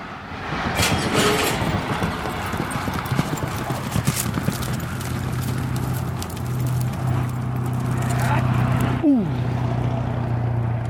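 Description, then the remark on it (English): A horse's hooves clip-clop in a steady run of distinct steps as the rider backs the horse up to get a head start in steer roping, over a constant low mechanical hum, with faint background voices and a brief rising whine near the end. “So he's backing up the horse in order to get a head start because he knows this one is fast.”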